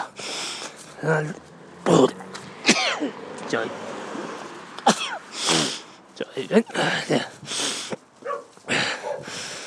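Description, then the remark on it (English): A few sharp sneezes from a person walking past burst out amid snorts and throat noises, with bits of voice and shuffling movement in between. “Me walking past and me sneezing, but there you go.”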